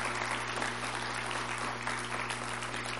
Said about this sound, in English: And we praise God for that. Yeah, I think we ought to clap for that.